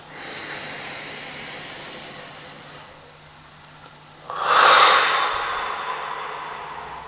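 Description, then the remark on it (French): Forceful breathing done a third time as a breathing exercise, with no talking: a long steady airy breath lasting a few seconds, a brief lull, then a louder, sharper rush of air that slowly tapers off. “Et percevez, en revenant à une respiration normale, comment cette détente vous recentre dans votre cœur, comme si plus rien ne pouvait vous déranger.”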